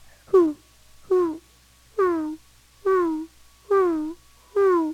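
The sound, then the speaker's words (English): A person imitates an owl's hooting, giving six drawn-out, slightly falling hoots at a steady, even pace, clear with nothing else in the background. “This sounds just like an owl.”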